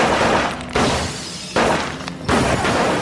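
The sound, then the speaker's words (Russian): Loud gunshots crack out in a tense exchange of fire in a pharmacy, three or four sharp blasts spaced under a second apart, each trailing off into a dense, noisy rumble with no voices. “Начинается перестрелка.”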